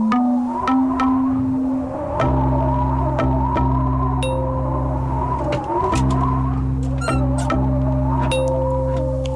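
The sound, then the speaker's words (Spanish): A swing's chains creak and squeal in a steady back-and-forth rhythm, with sustained groaning tones and regular sharp clicks at each pass, loud with no voices. “En Radio Amigos, si hay competencias de columpios y transmitimos rechinidos de columpios”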